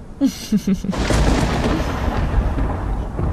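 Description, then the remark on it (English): A deep, loud rumble of thunder from an incoming storm rolls in and keeps growling steadily for a few seconds, just after a couple of brief vocal sounds from someone. “Babe, I didn't know there was a storm coming.”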